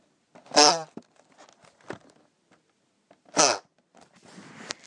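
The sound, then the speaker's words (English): The lid of a long, narrow chocolate box, about 15 by 6 inches, with a chocolate tray and a thin film inside, being lowered lets out two loud, buzzy, fart-like honks, a few seconds apart, with soft scraping and rustling of cardboard between and after them. “I was just putting the lid down and I discovered that it farts. It makes some really strange noises”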